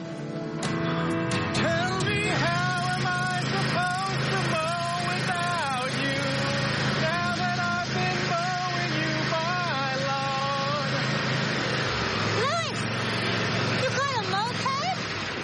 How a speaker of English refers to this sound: It's a riding mower. The yard at the old house would have been too small for one, but here we get to have some fun.